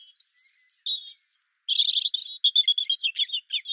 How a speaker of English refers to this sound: So the robin song is, I think, one of the most interesting that we've got.